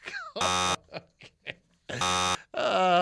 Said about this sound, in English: Okay. Oh, that's three buzzes. That's a lot of buzzes.